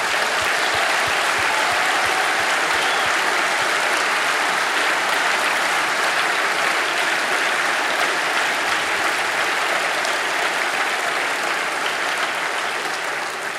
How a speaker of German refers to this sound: Und ich möchte euch einfach bitten, so für einen herzlichen Applaus für diesen Einsatz, für diese Menschen.